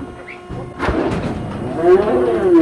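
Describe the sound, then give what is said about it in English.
Fifteen black heifers low in a small corral: a drawn-out, rising moo fades in near the end, after a metallic clank and some shuffling and rustling. “a small corral, 15 black heifers look suspiciously back at us.”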